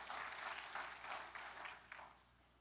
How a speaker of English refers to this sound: Give me a good clap offering this morning, would you?